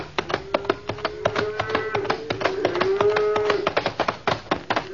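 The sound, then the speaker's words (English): A cow from a herd of cattle lows in one long, wavering moan lasting a couple of seconds, over a steady run of sharp clicking taps that continue throughout. “Well, Red Rider, lucky you can shoot the way you do, or Bud and my herd would have been blown to kingdom come.”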